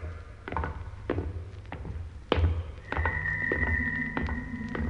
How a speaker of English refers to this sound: It's the door. It's closing again.